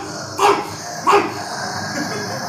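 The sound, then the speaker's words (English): A person gives two short, loud barks in imitation of a dog, spaced about half a second apart, over a steady low background hum. “I'm going to attack like a dog in a fucking fence. I'm going to fucking bark.”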